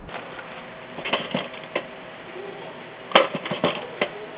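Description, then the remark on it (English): Irregular clicks and light clattering of small objects being moved around as someone rummages for a pencil to take a message during a phone call, heard over a thin, muffled line with no talking. “Let me grab a pencil.”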